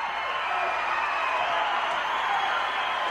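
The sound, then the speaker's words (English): A large concert crowd on its feet roars and applauds in a dense, continuous wash of cheering and clapping, loud and sustained throughout with no pauses or individual voices standing out. “The crowd's on its feet, going wild.”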